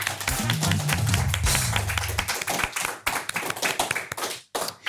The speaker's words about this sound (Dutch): Geef ze een groot applaus.